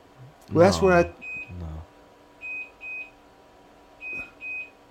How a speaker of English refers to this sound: I got to turn that off. You probably should. That's the perimeter alarm? That's my early warning if someone is walking to my retreat.